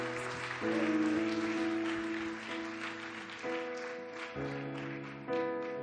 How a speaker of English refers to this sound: Let's give them a hand clap of worship, and let's worship with our team to this morning.